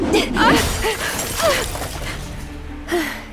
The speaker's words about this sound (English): It's a windmill sail. It shattered that street lamp into pieces. The wind must have ripped it right off its post.